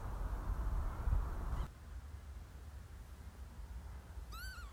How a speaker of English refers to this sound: It's a lapwing flying over us now, right on cue as we continue to talk about the wildlife that we've witnessed on these audio walks.